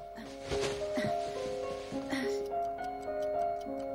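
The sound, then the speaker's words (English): A clock ticks in a quick, steady rhythm that grows crisp and distinct in the second half as Moomin Troll adjusts its hands, set against sustained musical tones and a few soft rustles earlier on. “Moomin Troll adjusts the hands on a clock while Moomin Mama hangs rugs on a line.”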